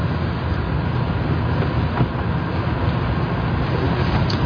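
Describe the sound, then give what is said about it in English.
A car engine rumbles steadily as the vehicle spins in a donut, a continuous low roar with no voices and no breaks. “Oh, would you look at his donut.”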